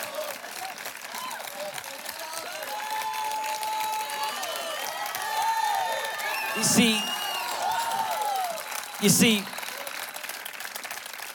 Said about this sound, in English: the people who are standing and applauding are the people who have for 9 years been bumping in and bumping out and setting up.